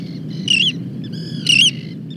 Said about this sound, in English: Roseate terns, federally endangered oceanic birds, called as they flew over the campsite en route from bay to ocean.